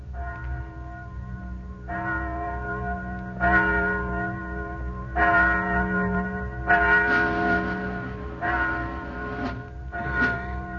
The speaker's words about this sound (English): Listen. Do you hear something? Just a bell. Must be 11 o'clock.